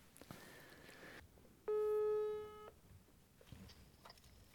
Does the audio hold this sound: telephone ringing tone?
yes